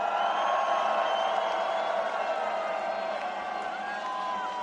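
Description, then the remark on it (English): A huge festival crowd at Tomorrowland screams and cheers on a call to put their flags up and scream, in one sustained, steady roar for several seconds, with a few higher shrieks and whoops cutting through the dense wall of voices. “So please, put your flags up, put your fucking flags up, put your flags up, put your fucking flags up, put your flags up, put your fucking flags up, Tomorrowland, put your flags up, and scream!”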